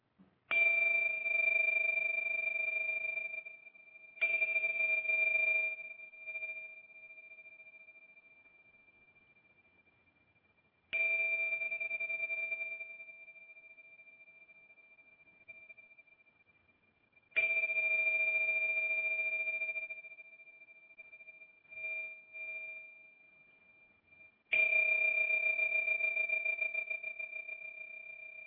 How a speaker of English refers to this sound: They're two small cymbals that when you sort of click them together, they bring this amazing sound that really breaks through all sound barriers.